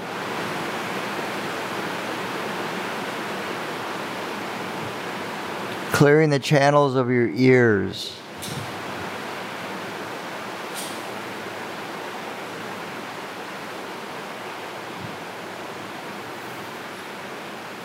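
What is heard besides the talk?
flowing water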